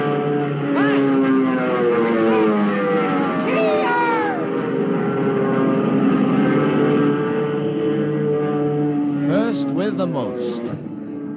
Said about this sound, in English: Hey, look, the planes are taking off.